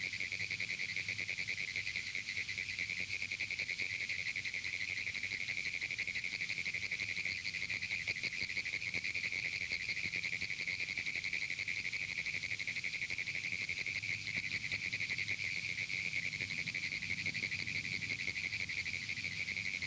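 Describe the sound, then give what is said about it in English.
A dense chorus of Pinewoods tree frogs (Hyla femoralis) calls nonstop, an erratic, Morse-code-like high buzzing trill of rapid clicks with no pauses, steady and fairly loud throughout, with no voices. “The erratic call of the Pinewoods tree frog has been likened to Morse code.”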